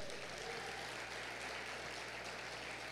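Steady, dense clapping from a crowd giving strong applause to God fills the whole stretch, a continuous crackling wash of many hands with no voices over it.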